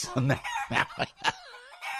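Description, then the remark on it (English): A rapid series of loud chicken clucks from chickens brought down to the shore gives way to a drawn-out, wavering rooster crow, with a final squawk at the end; no talking accompanies it. “He brings his chickens down the shore.”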